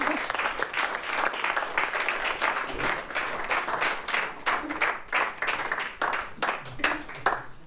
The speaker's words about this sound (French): On peut applaudir